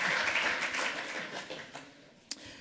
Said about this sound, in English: Second round of applause for that.